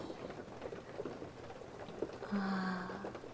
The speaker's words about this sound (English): Do you hear that? It's the rain, honey. It makes me so sleepy. And the pitter patter of the rain just hitting everything. You can hear the difference if it's a rock, if it's a window.